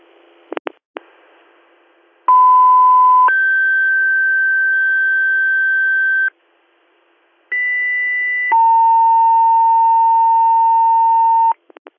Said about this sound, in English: Can you go ahead and drop our tones for the IAR page?